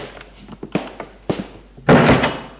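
A door opens and closes: several light clicks and knocks from the latch and frame, then a loud, heavy thud as it shuts, with a brief rattle after.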